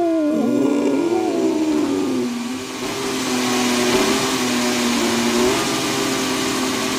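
A Mercedes-Benz W14 Formula 1 car engine fired up and revving: a loud, high, tonal engine howl holding steady with wavering pitch, a brief dip midway, then rising again, continuous with no talking.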